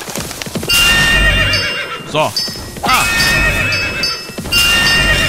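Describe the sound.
Horses whinny loudly several times, with high wavering neighs, while hooves clop steadily underneath; a voice briefly calls out over the busy scene.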